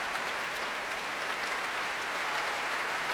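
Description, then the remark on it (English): Sustained applause from a large concert audience as conductor Colin Davis returns to the stage and bows to his players, a dense, steady wash of clapping that holds an even level throughout with no voices standing out. “Again, trying to deflect the applause by turning towards his players and bowing to them.”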